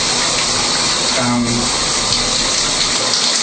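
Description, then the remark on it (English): Shower water runs steadily from start to finish, a loud, continuous hiss and spatter, with a brief low murmur rising faintly beneath it partway through, as a person stands in the shower letting conditioner work in their hair. “But I can just stand here and talk to you for a couple minutes while I'm letting that conditioner work its magic in my hair to make me look pretty.”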